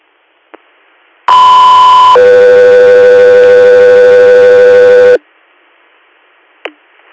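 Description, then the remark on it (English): A loud two-tone radio dispatch page for Guthrie Air: one steady electronic tone for about a second, then a lower tone held for three seconds, framed by brief radio squelch clicks before and after. “Guthrie Air, stand by for tones.”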